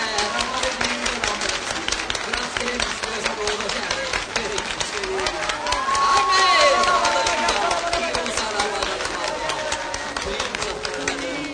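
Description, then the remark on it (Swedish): A crowd claps steadily, dense rapid hand claps filling the whole stretch, with cheering and excited voices rising over it and a swell in volume around the middle. “Jag tror vi ger Jesus en applåd.”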